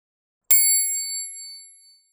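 A single bright bell ding, the signal to turn the page in a read-along children's book, strikes sharply, its high metallic tones ringing out clearly and fading gradually over about a second and a half, alone with no other sounds.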